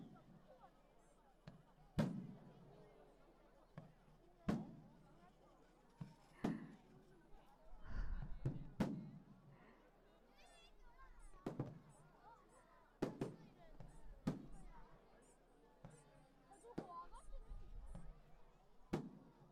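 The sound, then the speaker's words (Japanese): Fireworks burst, sharp pops and deeper booms arriving roughly every couple of seconds, all fairly faint, with a soft murmur of background voices in between. “花火終わっちゃいましたね。”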